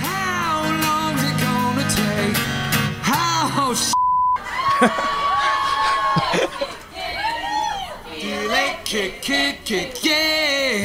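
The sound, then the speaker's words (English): A concert crowd sings along loudly after the singer, playing a newly released song live, forgets the words. Many voices blend into one dense, swelling melody after the music drops out for a brief moment, with a held note and scattered whoops. “And then he just forgets. And then the crowd jumps in.”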